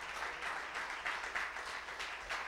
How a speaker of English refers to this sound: Somebody give the Lord a hand clap of praise that you're in a church.